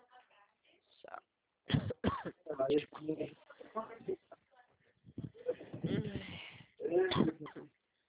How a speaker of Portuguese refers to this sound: Eita, a gripe tá braba, hein? Poxa, aqui ó, o tempo muda toda hora. Eu tenho uma tosse alérgica. Aí eu fico toda hora tossindo. E o ar-condicionado, né?